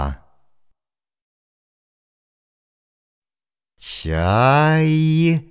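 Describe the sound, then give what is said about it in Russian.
After a brief sound and a long silence, a single loud gull call rings out: a harsh, richly harmonic cry that swells, rises slightly in pitch, then sags and cuts off. “Чайка.”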